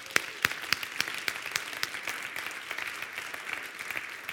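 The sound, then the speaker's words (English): An audience at a spiritual community service applauds together after a closing prayer, a dense steady patter of many hands clapping with a few sharper individual claps standing out, holding at a fairly even moderate level for several seconds without any voices. “Let's applaud this beautiful day.”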